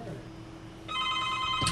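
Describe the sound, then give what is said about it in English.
A telephone rings with a bright, steady electronic trill that starts partway through and carries on to the end, fairly loud, over a low background hum with no talking. “It's ringing again, it looks like.”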